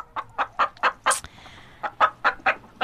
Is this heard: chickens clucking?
yes